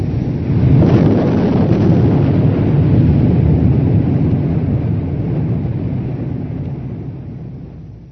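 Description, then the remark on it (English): A massive explosion erupts after a brief moment, then rolls on as a loud, deep, sustained rumble that slowly fades over several seconds, with no voices. “Then the explosion, like the shattering destruction of the world.”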